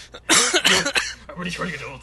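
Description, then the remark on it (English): A loud, harsh cough, a couple of rough bursts in quick succession, followed by quieter voiced murmuring. “I just keep coughing.”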